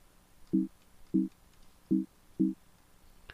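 Four short, identical electronic boinks sound at an even pace, a computer error alert repeating as the up and down arrow keys are pressed, fairly clear against a quiet background with no talking.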